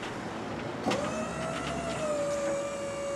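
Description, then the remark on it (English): A truck lift lowers pallets of food boxes from a truck bed to the ground outside a county senior center in Harrison County, Ohio. A steady electric motor whine starts after a soft clunk and hums on evenly, with no voices. “Outside the Harrison County Senior Center, pallets of food boxes ride a lift from a truck bed to the ground.”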